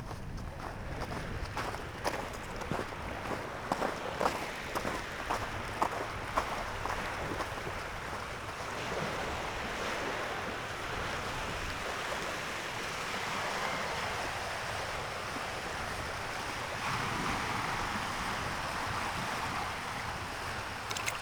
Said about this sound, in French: le vent qui bruisse dans les arbres m'amène naturellement au bord de l'eau où s'écoule le flot incessant des vagues.